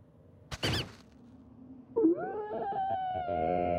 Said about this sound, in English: His muffled yells make the others resurface.